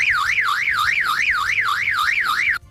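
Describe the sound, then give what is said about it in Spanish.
A parrot mimics a car alarm with a loud, steady warbling whoop that rises and falls rapidly about a dozen times, alone, then cuts off abruptly. “¿Alarma? Yo creo que es alarma también. ¡Pues es un loro!”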